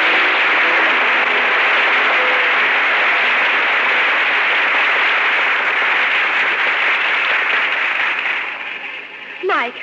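Sustained applause from a crowd, a dense, steady wash of many hands clapping that holds loud for several seconds before thinning out toward the end.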